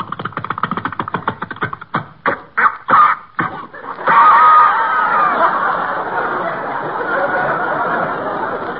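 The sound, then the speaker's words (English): A small pull-start generator engine, started by winding the rope around the flywheel and pulling, sputters with rapid ragged pulses, coughs in several separate bursts, then catches and settles into a steady, loud, rough running drone, its exhaust smoking. “Just wind the rope around the flywheel, then pull.”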